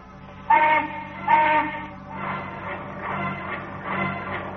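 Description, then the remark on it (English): A small steam donkey engine starts up with two short whistle blasts, followed by rhythmic chuffing bursts of steam over a steady low mechanical rumble, as it swings a man high over rough crags. “The people gathered near the little donkey engine feel a tightness come to their throats as they watch the fragile figure of the old doctor being swung away high over the rough crags.”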